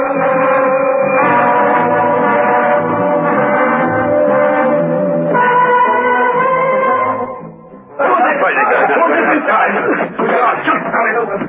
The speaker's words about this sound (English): Steed heard the warning bells. It could only mean another escape.